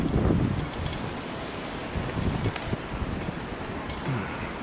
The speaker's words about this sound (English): There's the sea, it's quite rough.